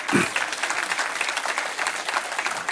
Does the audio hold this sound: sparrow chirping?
no